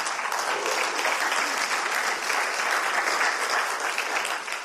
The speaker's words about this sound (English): Now, in case, yes, give the Lord a hand clap, please.